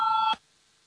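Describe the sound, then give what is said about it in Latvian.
A short electronic voting bell signal in a parliament, rung before a vote on a finance minister's proposal, sounds once, a steady bright tone lasting about a third of a second before cutting off abruptly into near silence. “Lūdzu zvanu, balsosim par septīto finanšu ministra Reira priekšlikumu.”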